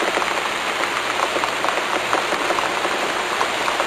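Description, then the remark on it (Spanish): Heavy rain pours down in a steady, dense hiss, spattering constantly on a hard surface, with no voices and no breaks. “Necesito, si llueve mucho y no me quiero mojar.”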